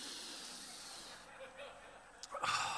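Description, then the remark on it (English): Someone sniffs their worn gym clothes deeply, a long breathy inhale that hisses softly, followed by a short, sharper sniff at the end. “And before I pull my clothes out and throw them in the washing machine, this is what I do. I sniff them.”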